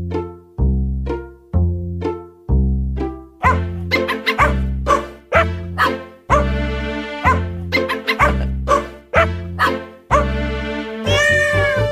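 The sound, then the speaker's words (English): A Christmas holiday jingle built from sampled cat meows, each pitched meow landing as a note in a steady, bouncy rhythm, loud and up front with no talking. “Well, anyway, Nathan's found a way for us to milk the … another week.”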